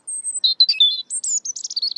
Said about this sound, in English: European robins in noisier environments tend to sing at night. The finding suggests that these robins experience nighttime as the best time to have their voice heard by potential mates and rivals after the day's hustle and bustle.